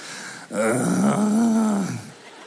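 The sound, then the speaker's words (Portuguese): A man's voice imitates a long, drawn-out groan after drinking a full litre of sugarcane juice, a single sustained low moan lasting about a second and a half, fairly loud, with no other talking. “Mano, eu gemia.”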